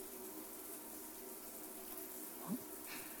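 Steady, soft rush of running water rinsing soap suds off, with a brief louder splash partway through, fairly quiet and continuous, with no voices.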